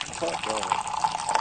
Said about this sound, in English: We're going to pour you a cup of coffee.